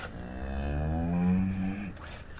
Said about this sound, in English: A herd of cattle at Appleton Farms in Ipswich, Massachusetts, on a gray, drizzly day. Amid rolling grasslands, it's one of the oldest continuously operating farms in the United States. White Park and Jersey cows are raised here for milk production